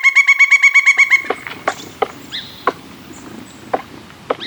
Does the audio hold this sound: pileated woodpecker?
yes